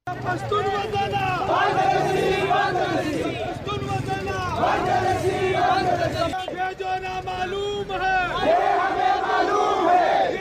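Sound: rally crowd chanting slogans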